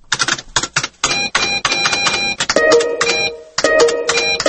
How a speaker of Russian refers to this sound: Такой звук обычно сопровождает загрузку страницы в интернете. Он означает, что страница не может быть загружена, потому что она не найдена.